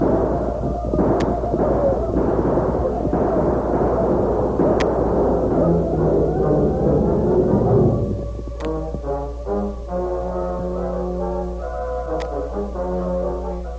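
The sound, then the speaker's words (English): A few sharp gunshots crack out at scattered intervals over a dense, rumbling clatter as Hiram Lynn and 20 or more men gallop into a village with guns firing; after several seconds steady music takes over while the occasional shot continues. “Hiram Lynn, leading 20 or more men, galloped into the village with guns in action.”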